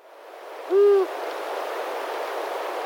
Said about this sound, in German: Ja, ich habe zwei Sounds mitgebracht. Ja. Der erste ist der Gesang von der erwachsenen Eule.